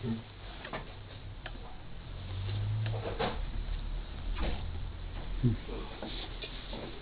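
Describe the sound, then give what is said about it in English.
A small clock ticks softly and steadily, each tick a faint, crisp click repeating at a regular pace over a low background hum and muffled background noise. “There's a little clock around here.”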